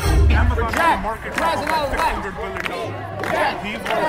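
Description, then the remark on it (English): A large protest crowd outside Trump Tower on Fifth Avenue in New York shouts and yells angrily at Donald Trump, many overlapping voices forming a loud, continuous roar with rising and falling chants and no single voice standing out. “But I was involved as the crowd went berserk at Donald Trump.”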